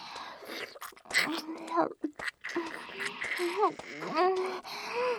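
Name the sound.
heavy excited breathing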